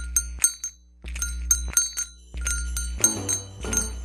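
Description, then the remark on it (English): An electric bell, driven by an electromagnet that turns the current off and on to ring actual bells, rings in quick bursts of bright metallic dings, with a low steady hum running underneath and clattering overtones thickening toward the end, fairly loud. “These are actual bells, and this is an electromagnet. Turns off and on the current and rings the bell.”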